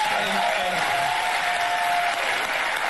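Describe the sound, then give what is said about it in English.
An audience applauds a line about pardons in 2024. The steady, dense applause fills the whole stretch, a loud continuous wash of many hands clapping with a faint murmur of crowd noise underneath. “It's hilarious that that's an applause line in 2024 based on the people that are running against him.”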